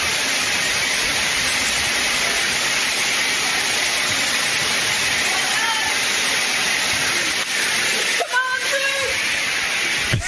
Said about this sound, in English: Pressure of that water. That's not dripping. Oh, yeah, no. Mm-hmm. That's forced.